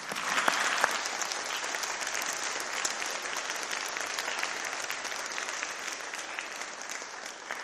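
An audience claps together in steady, dense applause that holds at an even level for several seconds, a few sharper claps standing out at the start, with no voices over it.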